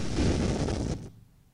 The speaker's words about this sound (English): As you can see, the storm is really working itself up here in Sunken Harbor. I'm right on the boardwalk, and already the waves are coming right up to the pillars